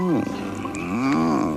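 In a Toblerone chocolate advert, a voice imitates a cat's purr: a steady, rolling, throaty rumble lasting under two seconds, its pitch dipping and rising slightly, fairly loud and with no other talk over it.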